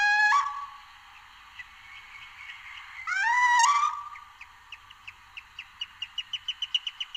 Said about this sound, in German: Hier meldet sich die kleinste Eule der Region, der Steinkauz.